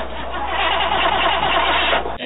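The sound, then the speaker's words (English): A car engine cranks over steadily for about two seconds with a fast, churning starter rhythm, fairly loud, then cuts off abruptly without catching; the car battery has just been hooked up. “But I did, by that sound, I had the battery hooked up. Yeah, it did crank.”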